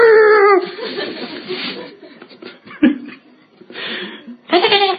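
A dog howls loudly in long wavering tones at the start and again at the end, with rougher yelps and a single sharp bark in between.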